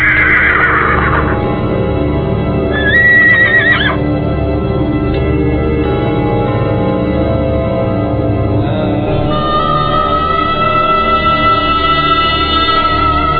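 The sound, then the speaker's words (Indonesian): A horse, Raden Patah's, whinnies loudly as a santri takes it away behind the pondok at Gelagah Wangi, its high neigh rising and falling over a steady low rumble of hooves and movement that continues throughout with no talking. “Sementara seorang santri mengambil kuda Raden Patah dan membawanya pergi ke belakang pondok.”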